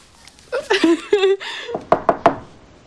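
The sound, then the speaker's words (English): Three quick, sharp knocks rap on a door in a tight rhythm, clear, following a brief burst of voice a moment earlier. “He goes to the door.”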